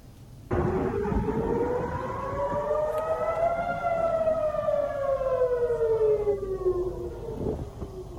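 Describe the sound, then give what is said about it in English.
An air raid siren near the Israeli city of Haifa wails after a Hezbollah missile attack on a naval base, its pitch slowly rising then gradually falling in one long sweep, loud and continuous over a low background rumble, with no voices. “Sirens have sounded following Hezbollah's missile attack on a naval base near the Israeli city of Haifa.”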